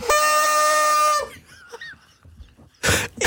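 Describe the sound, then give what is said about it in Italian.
A single loud, buzzy toy horn honk holds steady for about a second, followed by faint squeaky noises and a short burst of hissy noise at the end. “Suoni la trombetta e la tua donna cosa dice?”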